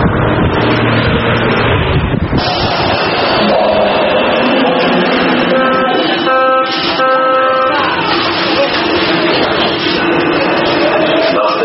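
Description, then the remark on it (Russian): Loud, continuous morning city street traffic in Warsaw, Poland, with engines roaring and rumbling, traffic jams, rising whines of passing vehicles, and an indistinct murmur of voices mixed into the steady din. “Рев автомобильных двигателей, пробки, гул сотен разговаривающих пассажиров в общественном транспорте.”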